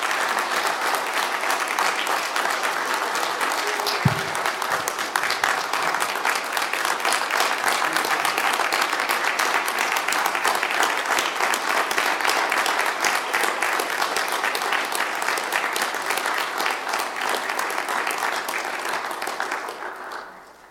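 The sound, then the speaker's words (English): An audience applauds steadily for about twenty seconds to show appreciation for their pastor, a dense, even wash of many hands clapping at constant loudness before it tapers off at the very end. “But I think we should take some time right now to just express with some applause how much we appreciate our pastor.”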